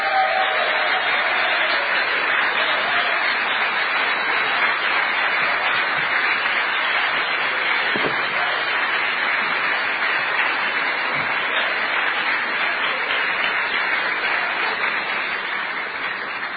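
Sustained audience applause for a guest at a hacker convention, a dense steady wash of many hands clapping at even loudness for about sixteen seconds, tapering slightly at the end, with no voices standing out.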